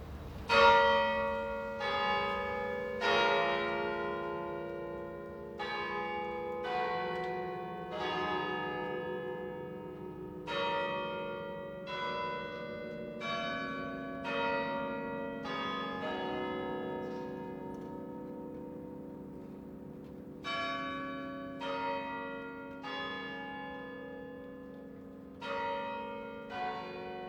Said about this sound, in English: And it's traditional for this Finnish concert to begin with the bells of Kallio Church.